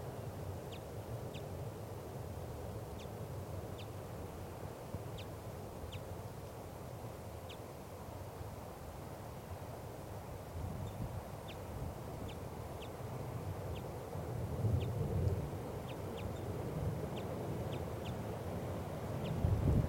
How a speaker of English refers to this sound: It's 1:25 p.m. And it's above the net setup now in the lodgepole pine. Recording. Wild bird. Very weak.